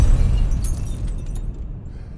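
A glass lens that flies out of a hand in a telescope room falls and shatters on a freshly mopped concrete floor, a quick burst of sharp, high crackling and tinkling fragments over a steady low rumble, fading after about a second. No one speaks.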